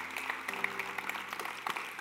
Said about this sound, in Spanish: Levanten un fuerte aplauso al Señor.